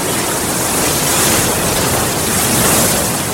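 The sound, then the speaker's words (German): Steady roar of Indian Ocean surf breaking on the beach at Port Alfred, Eastern Cape, South Africa, a dense continuous hiss of waves with slight swells in loudness, loud, with no voices. “Die Brandung des Indischen Ozeans. Wellen brechen sich am Strand von Port Alfred am östlichen Kap von Südafrika.”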